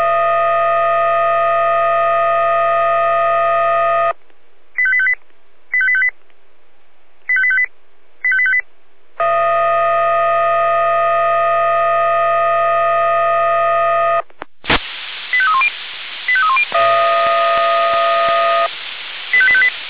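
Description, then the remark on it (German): Fire brigade radio alert tones from the Jena control centre, a follow-up alert calling more firefighters for the Sanganglauf fire brigade: a long, steady, buzzy multi-tone blast, four short paired beeps, another sustained tone, then crackling radio static with further warbling tones. “Ortslage Sanganglauf, Nachalarmierung zwecks weiter Kameraden, ich alarmiere nach.”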